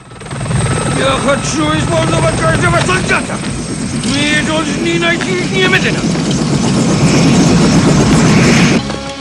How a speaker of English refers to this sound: A Russian chopper lands by the crash site.